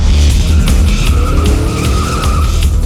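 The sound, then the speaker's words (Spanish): A car roars around a corner with a loud, sustained tire screech rising in pitch over a heavy, rumbling engine, with no voices. “Un auto hambriento de sangre dobla la esquina quemando llantas.”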